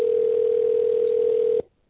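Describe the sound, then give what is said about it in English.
A phone ringing tone on an outgoing call to a person who does not answer, one steady electronic buzz-tone that holds for about a second and a half, then cuts off abruptly into silence. No voices are heard. “No, I find listening to the ringing kind of soothing.”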